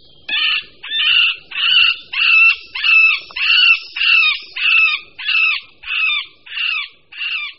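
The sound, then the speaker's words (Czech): In spring, a male middle spotted woodpecker gives a steady series of about a dozen plaintive, drawn-out nasal calls, some falling and some rising, evenly spaced, with nothing else audible. “Na jaře se samec strakapouda prostředního ozývá naříkavými, táhlými zvuky, někdy klesajícími, někdy stoupajícími, které nelze zaměnit s hlasy jiných strakapoudů.”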